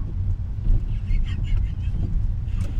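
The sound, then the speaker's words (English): Steady, loud low rumble of a car driving on the interstate on a weekday at 1 p.m. Central time, a constant drone of road and wind noise with faint higher chirps and squeaks drifting over it. “Because right now, as I'm driving, it is a weekday.”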